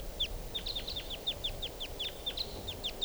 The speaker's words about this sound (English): I hear now some type 4 birds coming in.